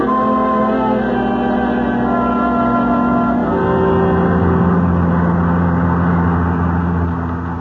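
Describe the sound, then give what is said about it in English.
A car engine idles steadily, then revs up with a rising, throaty roar and pulls away, staying loud throughout with no voices. “Here are the keys to the car.”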